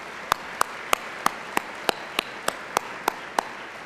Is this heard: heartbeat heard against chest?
no